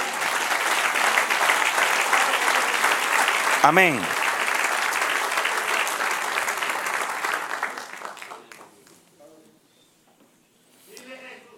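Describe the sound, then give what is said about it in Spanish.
A church audience breaks into loud, sustained applause for the Lord that fills the room for several seconds before tapering off; a single voice calls out over the clapping, and someone speaks briefly afterward. “Era un aplauso, Señor.”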